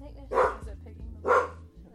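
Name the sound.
dogs barking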